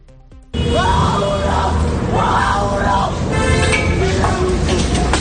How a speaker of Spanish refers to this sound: Son ocupas asentados en dos fincas que se enfrentan protagonizando una batalla campal en plena calle. Armados con palos y cristales, incluso con algún perro de raza peligrosa,